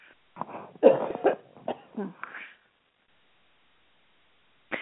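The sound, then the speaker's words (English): A person with a cold coughs several times in a quick, harsh cluster, followed by a stretch of silence and a short noise at the very end. “And every now and then I have to stop and cough.”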